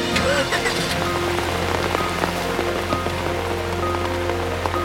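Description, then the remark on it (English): Steady rain patters on a hard surface, a dense continuous wash of droplets with occasional sharper drips, fairly loud, with a low hum underneath and no one speaking. “It's okay, Kitty. I'll keep the rain off of you.”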